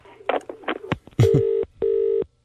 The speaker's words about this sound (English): My phone's just rang. I've just picked it up.